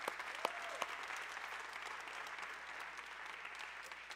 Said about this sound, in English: We have a group of people who week in and week out make sure that you have a place to sit in here. Our chair team, let's give them a big round of applause to thank them.